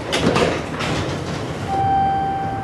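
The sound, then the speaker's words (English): An incline railway car in Pittsburgh scales the steep hillside along the Monongahela River, rumbling and clattering with mechanical scraping, then a steady high motor whine sets in as it keeps moving, moderately loud with no one talking. “Bathed in the international spotlight, the city's reputation is climbing like one of the incline railway cars that scale the steep hillside along the Monongahela River.”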